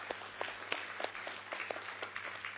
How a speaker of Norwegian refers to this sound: Ja, en applaus for det. Takk, Jesus.